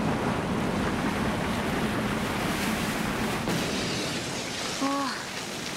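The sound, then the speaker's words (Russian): A stream of melted snow water rushes steadily and loudly after a couple of warm days, a continuous broad hiss of flowing water, with a brief high chirp near the end. “Вот и она. Вода. Растаявший снег.”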